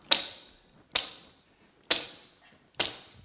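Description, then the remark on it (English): Four sharp, bright strikes land at a steady pace, each a crisp crack that rings out briefly before the next, as a volunteer strikes arrows against the ground without breaking them. No voices are heard. “Your task is also to strike the ground with the arrows, without breaking them, though, please, because I do need them back.”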